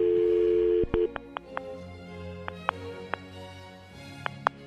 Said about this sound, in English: Oh, she hung up the phone, too. Oh, my God.